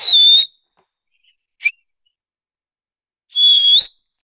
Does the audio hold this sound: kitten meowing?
no